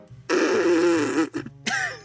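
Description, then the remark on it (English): A loud, raspy lip buzz made by pressing the lips tightly together, the lip action used to make pitches in a brass instrument mouthpiece, held for about a second with a wavering low pitch, then a couple of shorter sputtering buzzes after a brief break. “Only this time, press your lips together harder until it makes more of a buzzing sound, like this.”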